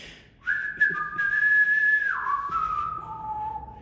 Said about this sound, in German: Erstmal habe ich während der Bühne die Melodie von das A-Team gepfiffen. Kennst du die?